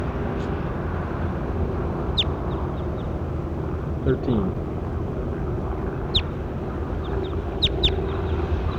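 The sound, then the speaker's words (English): Recording number 13 of a bird, bird 13, giving a few short, sharp high-pitched chirps, scattered and sometimes paired, over a steady rushing background noise; a voice briefly says something midway through. “That was bird 13.”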